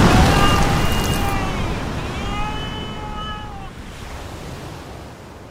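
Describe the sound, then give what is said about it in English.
A huge ocean wave crashes into the ship Cutty Sark during a storm in a loud, broad roar that slowly washes away over several seconds, while two long, wavering whistle-like tones rise and fall above the rushing water. “But he doesn't get to the wheel, because just then a monster wave hits Cutty Sark.”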